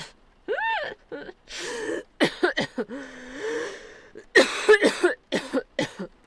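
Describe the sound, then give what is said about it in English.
A person coughs and sputters after swallowing water the wrong way: a string of harsh, irregular bursts, some raspy and some strained and voiced, with a few gasping breaths, loud and without speech. “I actually swallowed it the wrong way.”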